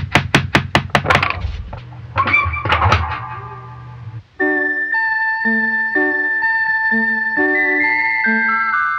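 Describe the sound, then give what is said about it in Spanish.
A rapid series of sharp knocks on a door, then a few more knocks after a brief pause, followed by a bright, chiming electronic melody playing steadily. “¿Y si tocamos la puerta?”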